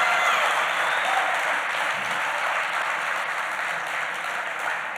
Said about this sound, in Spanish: Si yo fuera usted, aplaudiera y me emocionara un poquito.